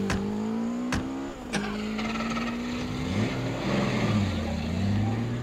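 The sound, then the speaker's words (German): A car engine roars and accelerates hard, its pitch climbing and dropping through gear changes, with a screech of tires at the start and no voices. “Schnell, zum Auto!”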